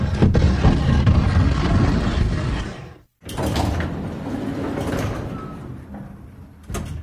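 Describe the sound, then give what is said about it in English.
A heavy elevator door rumbles as it slides shut, stopping abruptly, followed by a brief silence and then more mechanical rattling and clunking. No one speaks. “Pull in the bags so I can shut the door.”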